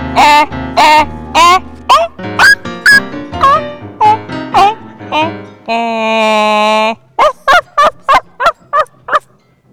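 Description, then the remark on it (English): A voice imitates a dog barking with a quick, rhythmic run of short, pitched yelps, breaks into one sustained howl-like note, then finishes with another fast burst of barks. “Woof, woof, woof, woof, woof, woof. I'm a dog.”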